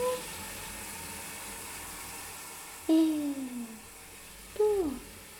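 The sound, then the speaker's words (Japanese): A shower sprays in a steady, even hiss from start to finish as a cat is rinsed, its fur massaged with fingertips, broken late by two short meows that slide downward in pitch, the second one brief and sharp. “シャワーをかけつつ、体毛を指先でマッサージするようにして、奥までしっかりと流していく。”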